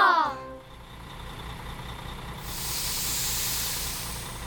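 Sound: bus pulling up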